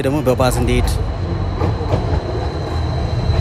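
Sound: electric tram running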